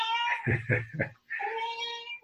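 animal, cat meowing

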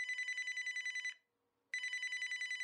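signal or alarm, telephone bell ringing

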